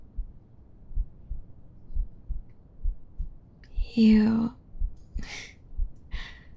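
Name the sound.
heartbeat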